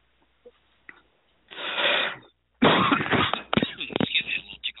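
Harsh, raspy throat clearing and coughing from a tickle in the throat: a long rough burst, a short pause, then a louder stretch of hacking coughs and scratchy throat noises with no speech.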